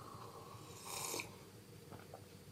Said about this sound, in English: which I'm going to have to take a quick sip here of delicious water.